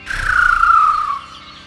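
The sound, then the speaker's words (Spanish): A serere curanchero bird perched at a window gives one drawn-out, slightly falling call lasting about a second. It is fairly loud, over a faint rumbling background, with no voices. “Ese es el serere curanchero del que les había hablado.”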